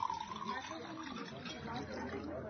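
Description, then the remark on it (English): Beer and water are poured and served at a restaurant, liquid pouring steadily into a glass for a couple of seconds, a continuous splashing trickle with background chatter murmuring underneath. “Certainly.Your beer, sir. And water for you, madam.”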